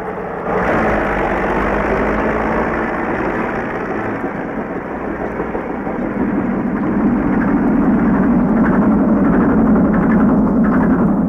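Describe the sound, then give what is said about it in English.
A heavy earth-moving tractor engine runs steadily and loudly, a deep continuous rumble that swells slightly louder toward the end, with no voices. “Dig and scrape and load, see them tractors roll when you're working on the road.”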